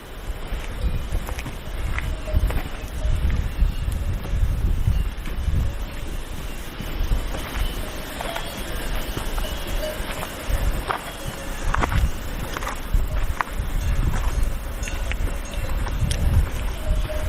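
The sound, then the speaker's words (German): Outdoor ambience in an alpine valley with a steady rush of falling water from waterfalls and wind noise, plus faint, scattered metallic clanks of cowbells. No one speaks. “dann hört man diese wunderbaren Kuhglocken. Es gibt Wasserfälle. Also die Geräuschkulisse dort ist wirklich einmalig.”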